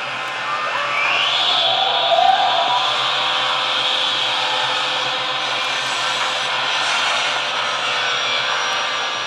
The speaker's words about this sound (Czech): Motor hučí naplno, letadlo se chvěje a letí. Ale není kormidla.